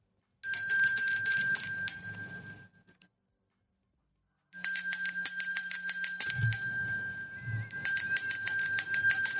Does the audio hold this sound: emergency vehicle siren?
no